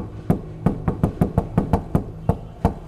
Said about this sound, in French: Je tape à la porte.